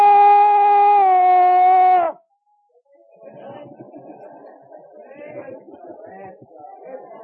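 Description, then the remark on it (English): A man imitates a wolf howl with a loud, sustained two-second note that sags at the end, followed by a short silence and then a background of murmuring voices. “I'm going to howl for you, and then I'll be done.”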